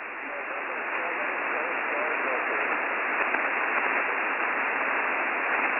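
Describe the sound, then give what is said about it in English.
Steady, loud radio static over a weak ham radio transmission on the Coast Guard Saturday Morning Net fills the whole stretch, a dense band-limited hiss with a rough, crackling texture and no clear voice breaking through. “I heard a November 7, then it blasted static.”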